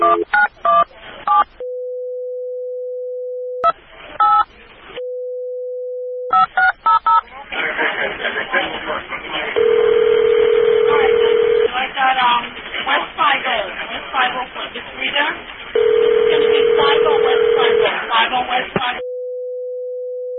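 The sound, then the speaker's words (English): Telephone tones over a phone line as a cell phone is called: a steady tone between bursts of dialing, then a long stretch of crackly line noise with muffled voices and two louder ringing tones. “Cell phone, I bet it's not working.”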